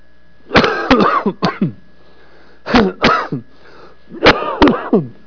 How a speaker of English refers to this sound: I'm not praying in tongues, that's a cough. Lord, excuse me.